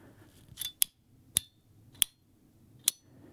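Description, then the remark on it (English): The knock of a Studio Neat Mark 1 retractable pen is pressed and released several times, giving sharp, bright clicks at uneven intervals, some with a faint springy ring from its spring, over a quiet low background with no talking. “A knock just means there's the clicky part at the top.”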